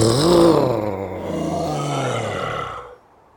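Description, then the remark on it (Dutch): A deep, drawn-out snow monster growl voiced by a person, starting loud and rough, then sinking lower and trailing off after about three seconds, with no other sounds. “Ik hoorde een vreselijk gegrom.”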